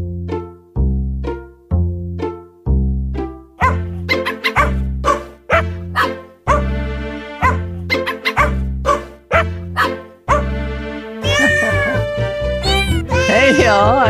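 Cat meows pitched and sequenced into a bouncy tune, about a dozen loud, evenly spaced notes in a steady rhythm, then a denser burst of music at the end.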